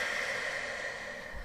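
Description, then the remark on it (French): A steady rush of breath, airy and hissy, drawn out for over a second with no one speaking: a person breathing in and out deeply during a guided breathing exercise. “Inspirez, soufflez.”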